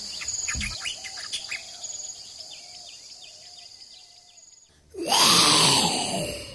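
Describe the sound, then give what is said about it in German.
Birds chirp and insects buzz steadily for several seconds, then a person bursts in with a loud, raspy, hissing imitation of a lion's roar that sweeps downward and lasts until the end. “Gute Frage, ich habe versucht, einen Löwen nachzumachen. Das klang aber eher wie eine Klapperschlange”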